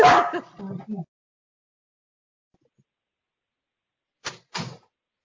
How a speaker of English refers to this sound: Sorry, my dog's, here she goes.